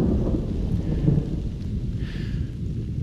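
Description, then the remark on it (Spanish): A low, rolling rumble of distant thunder from a storm over the large canyon of Ordesa, which amplifies it, fills the whole stretch, steady and deep with no sharp crack, heard alone outdoors with a faint wash of rain-like hiss above it. “con estas tormentas providenciales suele venir agua, y cuando viene agua llueve”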